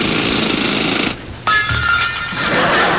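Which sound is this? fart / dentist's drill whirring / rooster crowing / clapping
dentist's drill whirring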